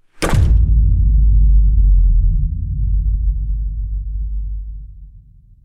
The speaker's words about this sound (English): The rear door of the house swung open.